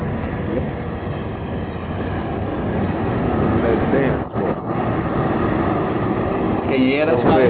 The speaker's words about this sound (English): Yeah, I live next to a railway. So there was a train passing by. I got the doors wide open, so you can hear that pretty well.